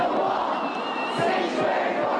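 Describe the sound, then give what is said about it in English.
An anti-Trump protest crowd of thousands outside a federal building, chanting and shouting together, a dense, steady roar of many voices at a constant loud level, with occasional higher voices rising above the mass throughout. “Their anti-Trump chants echoing outside the federal building and eventually along downtown streets.”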